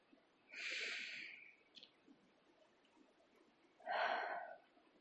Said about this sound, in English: Let's start by taking some deep breaths. Just like that. Let oxygen fill your lungs.